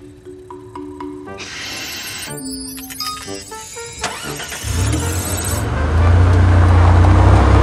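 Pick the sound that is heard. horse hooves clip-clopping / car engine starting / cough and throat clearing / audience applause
car engine starting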